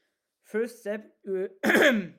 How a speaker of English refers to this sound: First step, I'm going to clear my throat.